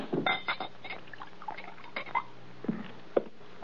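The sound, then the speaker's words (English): A drink is poured into a glass, with a few seconds of uneven gurgling and splashing broken by small clinks of glass. Nobody speaks. “Pour this down.”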